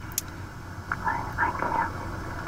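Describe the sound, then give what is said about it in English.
Faint, breathy whispering buried in steady low-fidelity hiss, like a message left on an answering machine, with a brief click at the start and a few murmured syllables in the middle. “That's like somebody whispering on an answering machine.”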